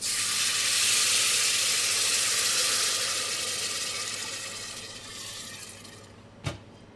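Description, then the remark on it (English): A loud, steady sizzle and hiss as just enough water is poured into a hot pan of lightly browned onions and noodle seasoning, slowly dying down over several seconds before a single short clink near the end. No one speaks. “Cook it for like 30 seconds to a minute, and then pour in just enough water.”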